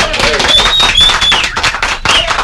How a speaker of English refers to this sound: Yes, the sweet sound of applause.